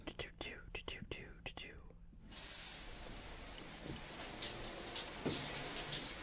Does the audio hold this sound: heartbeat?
no